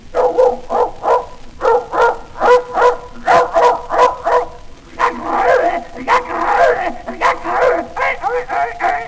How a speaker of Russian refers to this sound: Во, гляди, брат, вот это его лучший друг и товарищка-то, собака Собакевич.